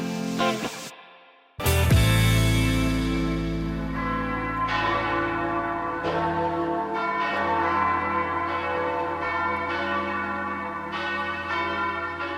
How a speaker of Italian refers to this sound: Das ist wie Gottzeit in der Weltzeit. E il suono delle campane annuncia la presenza del divino nel mezzo del via vai dell'umanità.